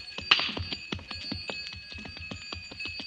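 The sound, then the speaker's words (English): Camel bells on camels being driven off jingle with a rapid, uneven clatter of metallic clinks over sustained high ringing tones, fading away in the distance, with no voices. “As I stood and listened to the camel bells fade away in the distance, I wondered...”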